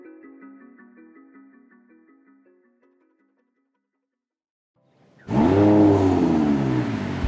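A few soft musical notes fade into silence, then a Ferrari sports car engine, parked at a lakeside cabin, roars to life, revving loudly with rising and falling pitch for the last couple of seconds.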